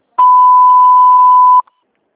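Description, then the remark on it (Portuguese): A single loud, steady electronic beep from an answering machine, at one mid-high pitch, held for about one and a half seconds before cutting off sharply, signaling the start of message recording, with no one speaking. “Após o sinal, grave sua mensagem na nossa secretária eletrônica.”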